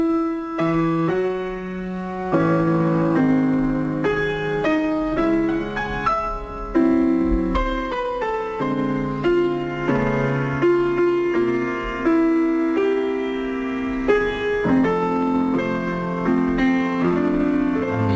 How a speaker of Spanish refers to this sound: la música del apartamento, la película de Billy Wilder, que sirve de cama musical